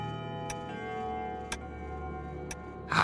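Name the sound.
clock ticking and chiming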